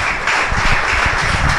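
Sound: audience applause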